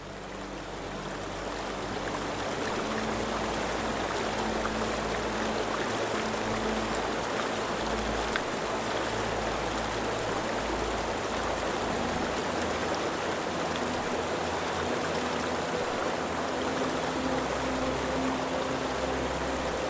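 flowing river stream

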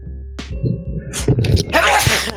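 sneeze

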